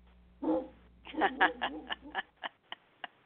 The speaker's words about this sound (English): could stop barking now. The song's over.